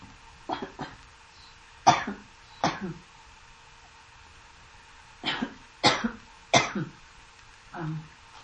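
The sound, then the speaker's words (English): A person coughs repeatedly in short, harsh bursts, a couple of clusters separated by a pause, with no talking. “I really get these little coughing things, and I'm kind of out of business for a minute.”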